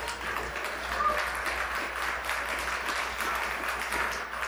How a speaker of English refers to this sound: And clapping is not sinful.